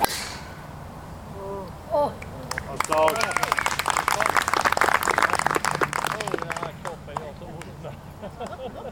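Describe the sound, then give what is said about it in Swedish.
A golf crowd breaks into a rising murmur after a player's long shot, mixed with scattered claps and overlapping voices, swelling for several seconds before settling back into quieter chatter, with an easterly wind blowing. “så går det ett sus genom publiken när han får iväg ett långt slag.”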